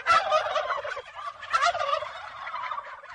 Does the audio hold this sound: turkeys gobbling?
yes